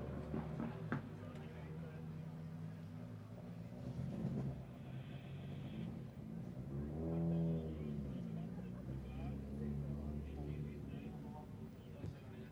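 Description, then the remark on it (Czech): Rally car number 19, crewed by Lukáš Pondělíček and Lukáš Vyoral, approaches on a stage of the Bohemia rally. Its engine roars, peaks loudly as it speeds past, then fades away with a falling pitch, set against steady outdoor background noise. “Tak Vojto, to už bylo číslo 19, dvojice Lukáš Pondělíček a Lukáš Vyoral.”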